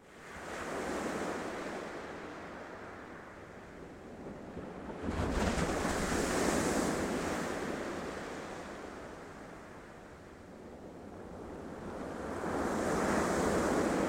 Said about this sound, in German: Stehe an der felsigen Küste und schaue auf diese Weite. Es ist eine wilde See. Der Wind ist stark, fegt gewaltig über die Wellen. Das Meer ist ganz aufgewühlt.